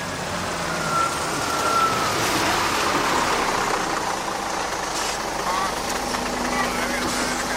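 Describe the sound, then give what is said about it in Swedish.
A bus rumbles in and pulls up amid a cloud of smoke and sand, its heavy engine droning steadily and loudly, with a brief high squeal near the start and faint voices in the background. “Nu kommer den. Nu är den här. Den kommer i ett moln av rök och sand. Äntligen kommer bussen.”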